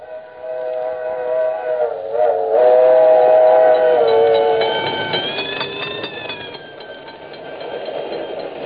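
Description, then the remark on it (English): A speeding train rushes past while a crossing bell rings steadily, its bright ringing tones sliding in pitch as the train passes, loud, with no voices. “Ladies and gentlemen, have you ever heard the crossing bell while you're on a speeding train?”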